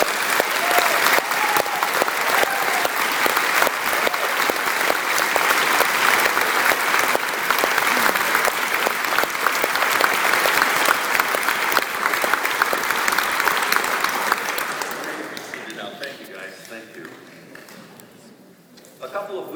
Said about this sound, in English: Please give all of our priests a round of applause.